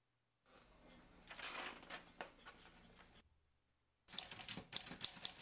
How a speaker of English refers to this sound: Oh, typewriter. That's so easy. Very easy.